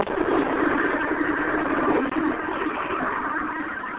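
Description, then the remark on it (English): A steady wash of traffic and engine noise runs without a break, a muffled, continuous rumble like cars passing or idling, with no clear voices over it. “Got a lot of noise in the background. Please mute. Praise the Lamb of God. Hallelujah. I can hear cars and all of that.”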